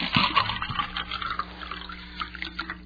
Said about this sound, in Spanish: Primero, llena 2 vasos con agua.